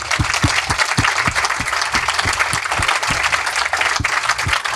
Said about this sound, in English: Can we just give everyone a clap for sharing some of their stories?